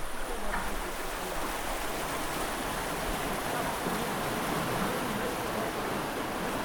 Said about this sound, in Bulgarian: Това е шума от водата. В момента има симулация за реакция при наводнения. Екипите на дирекцията се качват на лодки и демонстрират спасяване на хора при наводнения.